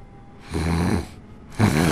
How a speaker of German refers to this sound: Boah, wer schnarcht denn hier so laut? Das ist ja nicht auszuhalten.